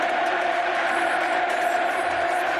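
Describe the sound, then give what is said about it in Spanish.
A huge crowd at Camp Nou stadium roars steadily, thousands of voices cheering and chanting the name of 19-year-old player Pedri, blending into a loud, sustained wash of cheering with a tonal, chant-like drone running through it. “Gritos del Camp Nou animando y coreando el nombre de un chaval de 19 años que se llama Pedri.”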